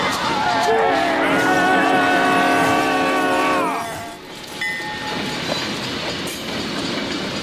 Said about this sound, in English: The train's back! Oh my God, move. Get out of the vehicle and move.